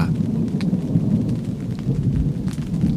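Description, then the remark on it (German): Deep, continuous thunder rumbles through steady rain during a thunderstorm with wind at a campsite, heard from inside a tent: a heavy low roar that fills the whole stretch, with faint patter and a few brief crackles on top and no voices. “Mit Gewitter und Regen und Wind.”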